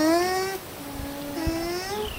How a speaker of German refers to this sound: Schön, ne? Also die summen so, das war jetzt ein Lama. Und Alpakas, die klingen ganz ähnlich.